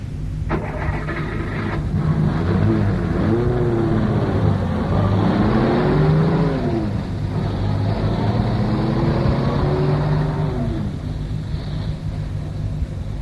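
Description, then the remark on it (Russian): A Volga car engine rumbles steadily, rising and falling in pitch as the car pulls away and drives on, with constant road and wind noise throughout. “29 января меня посадили в Волгу, и машина тронулась.”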